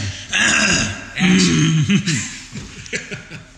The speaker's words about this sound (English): It don't matter if you mess up. Just keep rolling. Just clear your throat and keep going.